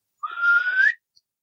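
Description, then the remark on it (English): A person imitates a single whistle heard around 1 a.m. outside a tent: one clear, fairly loud tone sliding steadily upward for under a second, then cutting off into silence. “And finally, the third and final whistle I heard was across the street from my tent at about 30 yards.”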